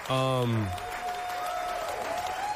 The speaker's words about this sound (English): They're clapping for us. They're cheering. They love us.